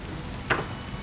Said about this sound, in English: Sorry, come in. Just get out of the rain.